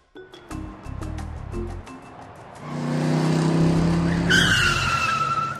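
A DeLorean car's engine revs loudly and builds, ending in a sharp, high tire squeal as the wheels skid. The sound is forceful, with no talking.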